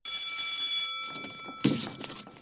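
An electric school bell rings at the end of class in a steady, bright metallic tone for about a second, then cuts off, followed by a burst of clattering and shuffling noise as students leave the room.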